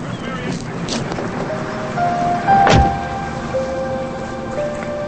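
A sedan's door shuts with a single solid thud partway through, standing out over a steady backdrop of rain and a low, constant hum.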